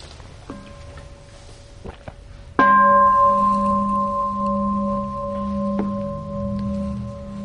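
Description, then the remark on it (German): A soft bell tone sounds briefly, then a loud metallic bell is struck once and rings on with a steady, sustained hum of layered tones that slowly fades. No one speaks. “Ja, dann würde ich gerne mal eine Glocke hören und mal kurz durchschnaufen.”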